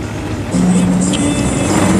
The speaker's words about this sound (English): The truck's now heading along a straight road out of town, bordered on both sides by tall trees.